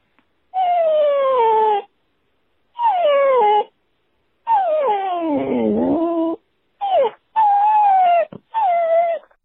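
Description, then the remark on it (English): A female dog howls as an entry in a coyote-call contest, in a series of six drawn-out, wavering cries that slide downward in pitch, separated by brief pauses, fairly loud with no one talking. “Now we have our first canine entry”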